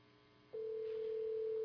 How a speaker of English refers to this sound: Why it is, I am hearing a phone ringing. I'm not sure why. Oi, it have a jombi in this place, you know. It really have a jombi. You hear a phone, I hear a phone. I have no phone ringing here.